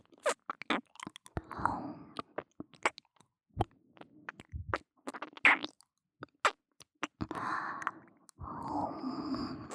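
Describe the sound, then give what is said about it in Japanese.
ASMR wet licking and smacking mouth sounds near the microphone crackle in irregular bursts, separated by soft, breathy exhales; no one speaks. “よし、次に行きます。吐息、舐め、吐息、 吐息。”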